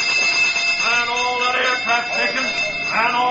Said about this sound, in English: First sound, general quarters. The sirens died with the dynamos. Well, the bell, then. Ring the ship's bell.